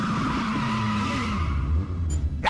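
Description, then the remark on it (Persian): A car brakes hard, its tires skidding in a loud, sustained screech that holds steady for a couple of seconds, with a low engine rumble underneath, ending in a brief scraping burst. “معمولا مسافرای من اینجوری هم ترمز که میکنم بپ بوالا میارم.”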